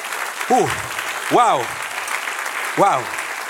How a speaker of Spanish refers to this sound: Dar un aplauso al que sigue.